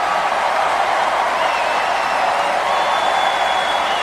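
A crowd cheering sound effect: a dense, steady roar of many voices that holds at full volume throughout, with a faint high whistle drifting above it and no individual talk.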